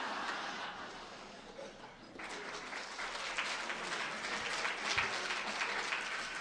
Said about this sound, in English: It's okay. A polite smattering of applause will do.